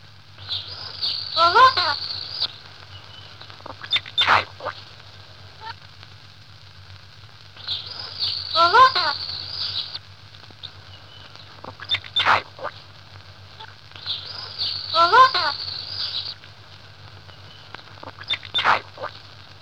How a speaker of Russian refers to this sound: Но знают попугаи не только попугайский, коверканный и ломный, сердитый разговор. Нередко попугаи в хорошем настроении, с хорошими знакомыми, по-русски говорят.